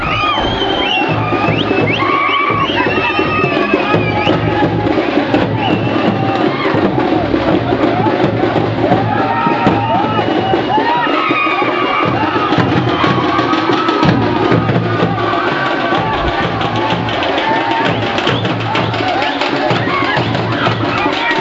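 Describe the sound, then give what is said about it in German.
A crowd runs around a burning bonfire with a straw effigy, sparks rising about 15 metres in windless air, filling the air with a steady, loud mix of overlapping voices, shouts and whoops that carries on without a break. “Kein schlechtes Feuer. Und jetzt rennen die alle wie bekloppt drumherum.”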